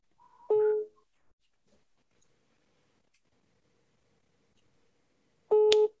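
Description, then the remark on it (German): A telephone ringing tone played over a loudspeaker as an outgoing call waits to be answered: two short, buzzy mid-pitched rings, the first at the start and the second about five seconds later, with near silence between and no talking. “Und jetzt hoffen wir einfach mal, dass der rangeht. Und also entschuldigt jetzt die Soundqualität. Wir machen jetzt einfach mal über Lautsprecher.”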